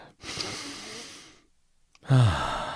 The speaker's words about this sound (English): I want you to take a moment and take a deep breath in.